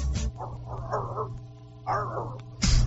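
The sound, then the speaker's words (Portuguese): A dog barks in a few scattered bursts, some sharp and others drawn out and whiny, over a steady low background hum, with no one talking. “Toda vez que eu vejo esse cachorro, eu falo, gente, o Rodrigo podia estar aqui, dar uma enquadrada nesses cachorros”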